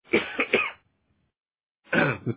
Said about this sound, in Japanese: もうね、あの、なんだろうね、歳なのかね、もう咳込むね。 もうね、持病尺がね。